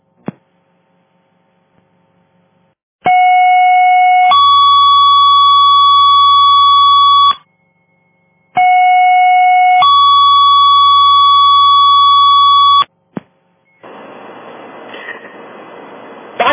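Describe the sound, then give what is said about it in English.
Loud fire dispatch alert tones over the radio striking a second alarm for box 442, a house fire completely engulfed: a short lower tone stepping up to a long, steady higher tone, sounded twice, followed by a burst of radio static. “Assignment box 442, striking second alarm, per car 2 for box alarm 442.”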